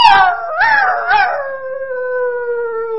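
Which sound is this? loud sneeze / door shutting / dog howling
dog howling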